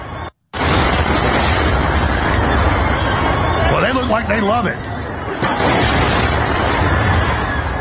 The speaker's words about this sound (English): This is the bridge being blown up with the terrorized public that was out there at the river enjoying themselves at the park.